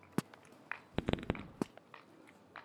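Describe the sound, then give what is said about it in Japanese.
Several sharp, crackling pops of time-signal fireworks being launched, a quick irregular cluster of bangs with a few scattered reports before and after, with no voices. “時報の打ち上げ花火が上がるんだったね。”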